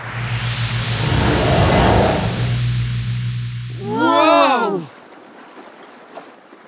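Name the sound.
ship at sea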